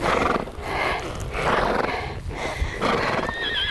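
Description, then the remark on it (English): A horse labors hard during a chukker of a polo match, loud rasping breaths and grunts coming in repeated heavy bursts, with a thin whinnying squeal rising near the end. “The horse is strained with effort during the chucker”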